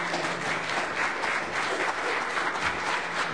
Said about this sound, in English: And now let us all give a round of applause for Reverend Tom Witt.